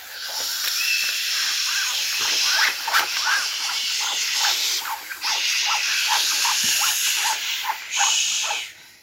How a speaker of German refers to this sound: Der Wind beginnt zu wehen, die Bäume rauschen.